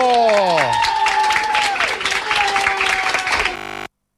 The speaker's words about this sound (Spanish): Hoy tengo gusto de hacer mi programa con Otra Mirada desde el Centro Ocupacional del Centro de Día de Discapacitados de Puerto de Rosario. ¡Un aplauso, chico!